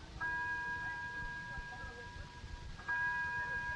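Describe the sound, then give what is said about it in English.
A china clock chimes twice, each stroke a bright, pure ringing tone that lingers and slowly fades, with the second stroke arriving about two and a half seconds after the first over a low background rumble. “Oh, that's a very pretty chime to that clock, Miss Carroll.”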